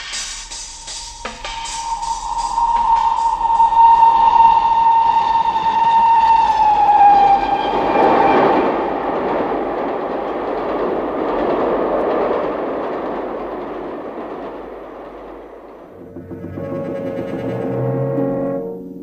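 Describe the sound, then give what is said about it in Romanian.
A train rolls along the rails with a loud rumble, opening with a long, steady whistle tone that fades into a broad roar and rhythmic clatter. There is no talking. “Plec chiar acum la Londra. Am un tren peste o jumătate de oră.”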